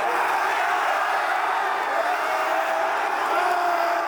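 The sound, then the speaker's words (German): A dense, steady roar of a large stadium crowd in Kiel cheering and shouting after the final whistle as the home club wins its first promotion to the Bundesliga and fans storm the pitch, loud and continuous throughout with no pauses. “Die Zuschauer stürmten auf den Rasen, verwandelten das ganze Stadion in eine riesige Partyzone.”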